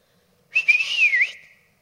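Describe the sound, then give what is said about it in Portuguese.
A single breathy whistle blown through the lips, lasting about a second, its pitch wavering slightly before dipping and fading out. It is clear, with no other sounds around it. “Um assobio na beiça.”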